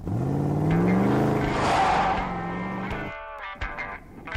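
A pickup truck engine revs loudly in Michelle Fiore's campaign ad for governor of Nevada, its pitch climbing and falling in strong surges before settling into a lower rumble, with no voices present.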